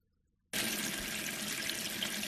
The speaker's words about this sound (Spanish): Como abrir el grifo de casa, por ejemplo, para beber un vaso de agua.